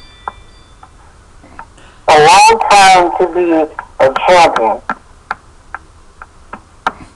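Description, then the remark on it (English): A Ring home security alarm counts down with steady, sharp ticks, a bit under one per second, continuing throughout. A man talks briefly over the ticking in the middle. “Oh, excuse me, that's my ring alarm.”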